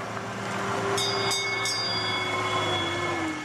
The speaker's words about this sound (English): Finally, the tourist train gets to the big house, Westport House.